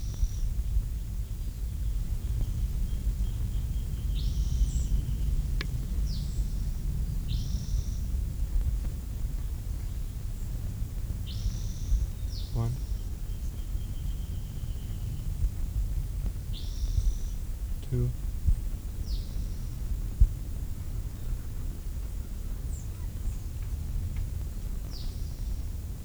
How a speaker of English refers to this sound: I can hear the first bird down the hill, but this bird must have moved on.